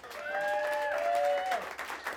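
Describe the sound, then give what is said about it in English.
An audience claps steadily for about two seconds, welcoming a performer before a song, a dense, even patter of many hands, with a couple of sustained high, whistle-like tones gliding over the applause near the start. “Don't clap until you hear the song.”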